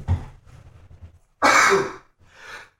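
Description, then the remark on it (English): A man sneezes: a single loud, sharp sneeze bursts out after a few soft, breathy intakes, followed by a fainter huff of breath as it trails off. “Bless you, sir.”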